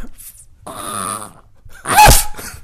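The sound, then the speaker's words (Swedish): A human voice imitates a stuttering dog: a stuttering, rattling growl-like sound, a short pause, then one loud bark-like burst and a brief trailing yap. “Så kan jag tänka mig att det låter när en hund stammar.”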